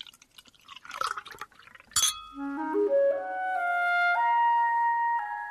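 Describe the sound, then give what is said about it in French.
A few soft clinks and a sharp glassy tap as a room-service waiter removes the cork from a bottle of red wine, then the wine pours steadily into the glasses, the ringing tone climbing in pitch as each fills, clear with no talking. “C'est lui qui retire le bouchon et qui remplit les verres.”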